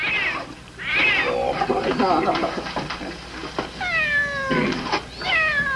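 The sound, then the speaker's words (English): A kitten meows repeatedly in high, rising-and-falling cries, a few clear mews spread across several seconds over a rumbling, busy background. “Let's have the kitten shipped.”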